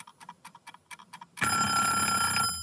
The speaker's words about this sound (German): Unangenehmer Wecker. Ja, auf jeden Fall. Also wenn ich sowas noch zum Aufstehen hätte, so ein Wecker, mein Gott.